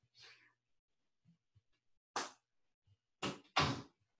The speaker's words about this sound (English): So I'm going to close my office door. Maybe that will quiet him down somewhat.